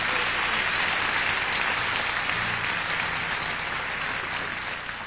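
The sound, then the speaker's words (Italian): A steady wash of audience applause for the harpist, dense and even with no single claps standing out, holding at a constant level for about five seconds before easing slightly at the end. “How about some extra applause for Stephanie Bennett on the harp?”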